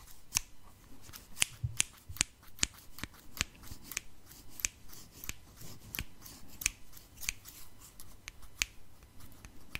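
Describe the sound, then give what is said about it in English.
Children's scissors snip steadily, a long series of crisp little clicks in a quick, slightly uneven rhythm with a soft papery rustle underneath. No one speaks. “because they're kids' scissors.”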